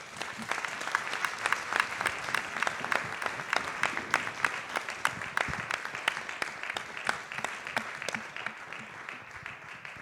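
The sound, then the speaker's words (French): An audience applauds a parliamentarian steadily for the full duration, a dense wash of many hands clapping at moderate loudness with a few sharper individual claps standing out. “Merci, on peut l'applaudir.”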